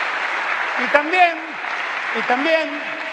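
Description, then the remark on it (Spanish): Sustained crowd applause at the launch of a program that lets people stop paying for medicines at the pharmacy, applauding the woman who made it, a dense steady wash of clapping throughout, with a voice speaking faintly underneath at a couple of moments. “Y también, un aplauso para ella que lo hizo.”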